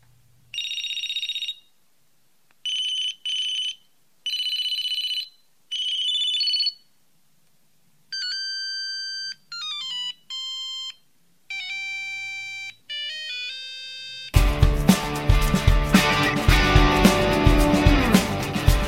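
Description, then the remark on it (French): Sony Ericsson T68i mobile phone ringtones, from a phone owned in 2003 with a colour screen and Bluetooth, played alone: repeated bright electronic chirping bursts, then a stepping beeped melody, ending in a loud, dense polyphonic tune. “C'était le Sony Ericsson T68i, un téléphone que j'ai possédé en 2003, le premier téléphone que j'ai eu qui possédait un écran couleur et le Bluetooth.”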